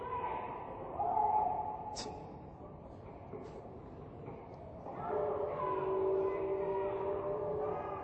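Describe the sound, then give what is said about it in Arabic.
A train rumbles along the railway with a steady mechanical roar, its horn sounding in a sustained blast that swells louder toward the end. “طبعا القطار اصلا ما هيمر من جهتهم، القطار اصلا هيمر باتجاه ثاني.”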